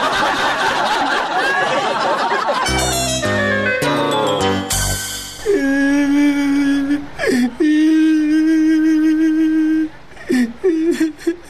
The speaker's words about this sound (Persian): او بچه جان چرا گریه میکنی ها؟ چی گپ شده؟ هیچ. خی چرا گریه میکنی؟